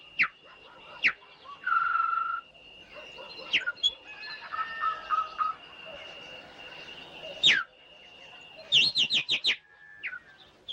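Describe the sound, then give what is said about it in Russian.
A nightingale sings in a village in varied bursts: sustained whistles, quick trills and sharp, rapid repeated notes, alternating with short pauses. A steady high tone hums faintly underneath. “Соловей поет. Да, соловей.”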